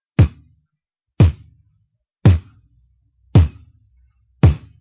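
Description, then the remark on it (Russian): Five evenly spaced beatboxed kick drums, each a punchy unvoiced lip burst with a deep thump and quick decay, alone with silence between them. A voice mimicking a kick drum by pressing the lips together as for the letter P, building breath pressure and saying P without voice. “Потом вы говорите букву «П» без голоса, и получается кик.”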